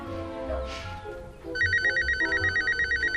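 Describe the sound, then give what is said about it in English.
Halfway through, a telephone starts ringing with a loud, rapid electronic trill that pulses steadily to the end, over a low murmur of background sound. “I just got to call Diane. Wayne grabs a phone from a cluttered desk.”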